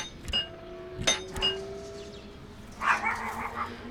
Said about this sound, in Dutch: Oh, en een hond.